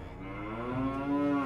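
A single long, loud cow moo with a low droning tone that rises slightly in pitch toward the end before cutting off.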